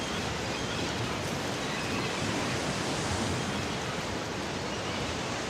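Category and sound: nature, waves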